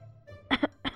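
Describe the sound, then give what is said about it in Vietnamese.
A dry, throaty cough breaks out in a few quick bursts, fairly loud against a quiet background, with no talking around it. “Phượng Hoàng nhíu mày ho khan một tiếng ngắt lời Hồ Ly Tiên đang hỏi thăm vô cùng thân thiết.”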